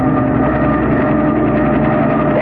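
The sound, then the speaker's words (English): A helicopter's engine roars in a steady, loud, rumbling drone with a faint rhythmic throb, holding constant throughout with no voices. The helicopter is coming in from the east, flown by a pilot bringing in a hired couple. “This is a helicopter, Milo.”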